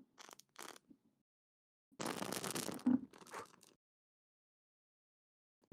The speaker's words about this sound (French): Et maintenant que j'ai potentiellement de l'argent, l'idée c'est que pour faire partir mon souhait dans les hautes sphères et qu'il soit réalisé, je crame la feuille à la flamme de la bougie au-dessus de mon petit cendrier.